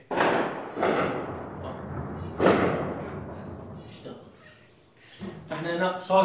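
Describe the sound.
Three heavy booming blasts go off at irregular intervals, each followed by a rumbling decay, then a person's voice briefly rises near the end.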